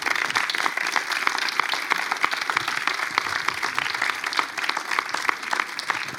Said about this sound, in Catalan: Un fort aplaudiment.